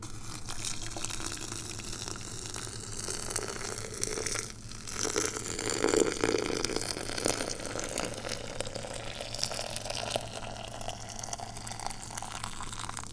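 Freshly boiled hot water pours steadily from a heavy boiling vessel into a teapot to make tea, a continuous gushing and splashing that runs for several seconds with a low background hum and no talking.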